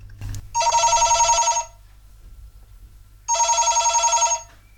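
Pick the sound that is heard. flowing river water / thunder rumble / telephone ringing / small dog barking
telephone ringing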